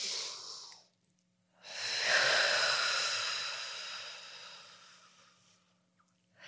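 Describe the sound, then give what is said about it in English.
A deep, audible breath: a short airy inhale, a brief pause, then a long, slow whooshing exhale that gradually fades. No one speaks. “Let's just take a deep breath now.”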